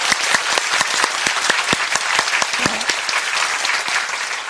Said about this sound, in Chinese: 哇！我真系要再一次咧，为咗咧喺各区啊，入到屋村啊，侍奉嗰班弟兄姊妹，鼓下掌声啊！